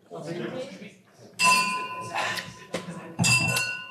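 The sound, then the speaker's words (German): Two bright clinks of glasses of red wine in a toast, each leaving a clear, high ringing tone that hangs for a moment, with people's voices talking before and between them. “In dem Sinne, Prost. Skål. Prost. Santé.”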